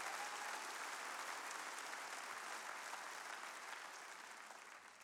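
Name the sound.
audience clapping hands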